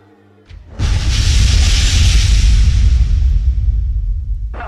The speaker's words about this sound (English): 750, I presume you heard that loud explosion right next to you. Russell 750, it just totally shattered our windows. Russell Street 306, loud explosion just took place outside the front of the complex.